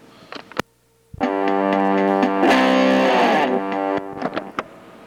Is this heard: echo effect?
yes